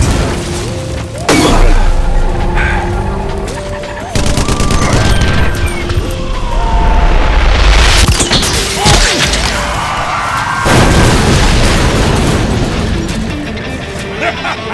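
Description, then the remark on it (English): Repeated heavy cannon blasts and explosions boom through a loud, dense battle din, with sharp crashes and thuds recurring every few seconds over a constant roaring backdrop. “The cannon flipped down towards the truck's hood the instant it fired.”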